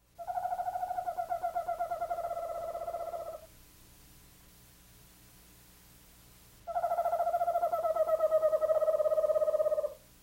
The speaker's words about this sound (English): Listen again to the rather eerie song of the eastern screech owl.